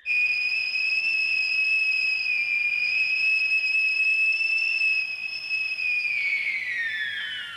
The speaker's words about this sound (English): Lord Belborough invites everybody to the grounds of Winkstead Hall after the daily 6 o'clock whistle, which marks the end of the day's work.